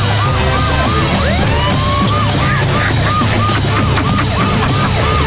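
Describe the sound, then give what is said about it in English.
A loud siren on a golf cart, run by the man riding it to make an entrance, wails continuously in rapid rising and falling sweeps, its repeated cycles overlapping with a dense, noisy background that runs throughout. “Siren from his golf cart?”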